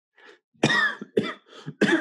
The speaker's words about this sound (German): Der Huster klang schon ein bisschen nach Stimmbruch,